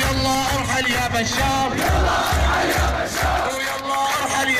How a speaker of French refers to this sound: Il faut voir la vidéo nocturne et floue de cette foule qui chante au péril de sa vie ce refrain « Allez, dégage Bachar » et qui traite le président Bachar al-Assad de menteur et d'âne.